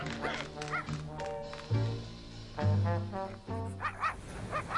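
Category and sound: animal, dog barking and yipping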